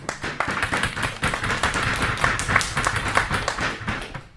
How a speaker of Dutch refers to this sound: Jongens, je moet er nu even klappen, denk ik.